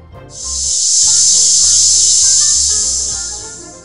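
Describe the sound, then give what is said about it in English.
A cicada's loud, steady high-pitched buzz swells in and drones on without a break, over a soft low musical background. “I sing very loudly. Some people don't like my songs. Can you guess? I'm a cicada!”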